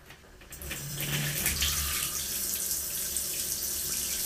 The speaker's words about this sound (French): Tu vas vers la douche. Et tu fais couler l'eau.